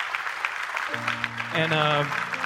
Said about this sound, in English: Give them another round of applause, yeah.